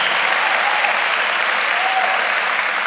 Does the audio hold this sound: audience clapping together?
yes